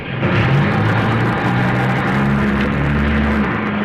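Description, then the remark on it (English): The new engine of a 1966 Rambler American car revs and accelerates, its low droning pitch climbing before leveling into a steady, loud roar with broad rushing noise throughout. No one speaks. “Hey, this car is all engine. New engine this year.”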